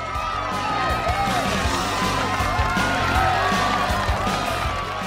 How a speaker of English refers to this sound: A crowd cheers the riders on.